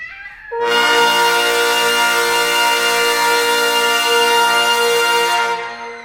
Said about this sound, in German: Also, wir hören jetzt erstmal, die Blechbläser versuchen jetzt mal ganz laut zu spielen. Und ich messe das jetzt mal hier.